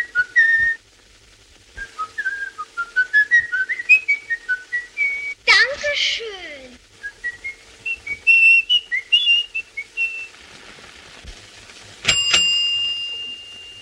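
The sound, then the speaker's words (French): The famous whistle from the film M (M le Maudit), a clear, melodic whistled tune on the air of In the Hall of the Mountain King, rising and falling in quick stepwise notes, interrupted midway by a brief noisy burst, and ending with a bright ringing chime-like tone. “Dans tout le début de M le Maudit, avant que n'apparaisse la figure pathétique de Peter Lorre, on ne voit pas l'homme en noir, c'est une ombre, c'est un dos, c'est un sifflement célèbre, celui qu'on vient d'entendre sur l'air de, dans l'antre du roi”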